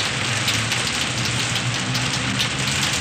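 Steady rain falls in a dense, continuous hiss, pattering on surfaces nearby with no voices, a constant close wash of drops for the whole stretch.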